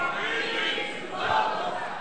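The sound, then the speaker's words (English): A crowd screams and shouts together in response to a call to scream "From Eden to Golgotha", a loud, sustained roar of many voices, holding steady for about two seconds with a slight swell near the end. “Somebody scream, "From Eden to Golgotha."”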